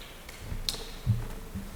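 A cane knocks on a hard floor: one sharp, bright tap followed by a few dull, low thuds, fairly quiet, with a brief hollow ring after the strike as the sound reflects through a doorway.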